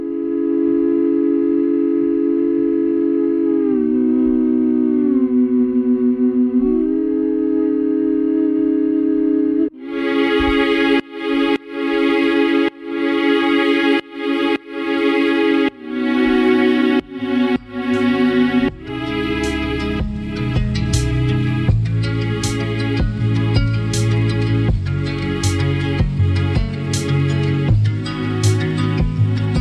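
Sustained strings blended with a hummed voice hold a slow melody alone, then a kick drum enters and the layer pumps rhythmically, ducking with each beat as the music grows fuller and louder.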